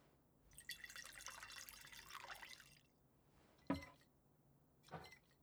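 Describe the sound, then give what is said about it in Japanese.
A person pours a drink for themselves into a glass in a steady splashing stream for a couple of seconds, then two sharp, separate clinks follow amid quiet. “私は自分で注ぐから。”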